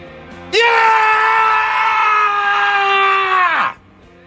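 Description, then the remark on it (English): A single loud, guttural scream held for about three seconds, raw, slowly sagging in pitch before cutting off, with only faint background sound around it. “That's my best guttural scream for you because that was really cool last night.”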